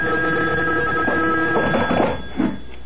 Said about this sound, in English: A phone. At this hour? I'll get it.